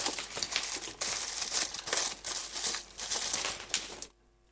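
Bubble wrap crackles and pops in a dense, continuous burst of crinkling plastic with sharp snaps mixed in, running steadily for about four seconds before cutting off abruptly. No voices.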